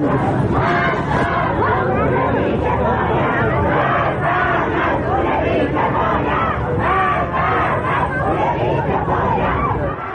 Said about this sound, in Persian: مردم همدان دیشب به خیابان‌ها آمدند و علیه مسئولان کشور شعار دادند.